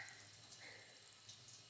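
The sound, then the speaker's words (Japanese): A steady, soft hiss of running shower water rinsing shampoo foam off hair and ears, continuing evenly for a couple of seconds with no voices. “泡が溶けて流れてくよ。”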